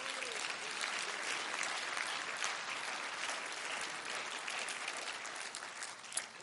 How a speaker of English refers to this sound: Can we clap our hands to the Lord?